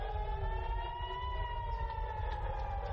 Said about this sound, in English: With sirens blaring and air defenses intercepting the missiles, alarms across Israel sent people scrambling for their air raid shelters.